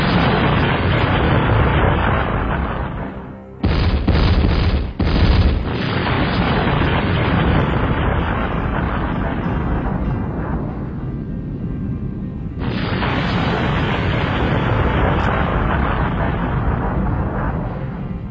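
Loud, rumbling explosion booms fill the whole stretch, a sustained roaring blast with a couple of sharp, punchy detonations early on, then continuing heavy rumble with no voices.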